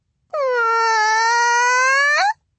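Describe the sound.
A girl lets out one long, loud, fake crying wail in imitation of a howler monkey, holding a steady, fairly high pitch for about two seconds before a brief upward lift at the end.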